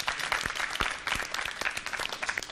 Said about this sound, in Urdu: اور اسی کے ساتھ ٹیم سی سے بھی درخواست کروں گی وہ یہاں تشریف لائیں، اور ان کے استقبال کے لیے بھی تالیاں ہونی چاہیے.